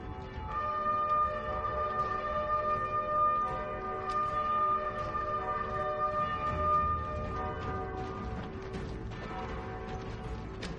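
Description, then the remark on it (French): Bugles and bells sound the ceasefire for the Armistice ending the First World War, November 11, 1918, at 11 a.m.: long, steady brass notes ring out over a dense, continuous clangor of pealing bells, loud and unbroken throughout, with no voices. “Clairons et cloches sonnent le cessez-le-feu.”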